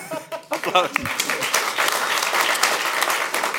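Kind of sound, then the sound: crowd, applause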